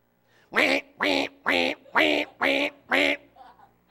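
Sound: alarm clock going off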